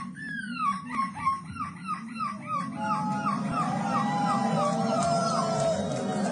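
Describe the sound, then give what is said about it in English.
A 9-year-old boy in a seagull costume imitates a seagull on stage with a rapid series of high, descending screeching cries that stretch into longer wavering wails, set against a steady murmur of crowd noise, with people booing. “He took up the art of gull screeching”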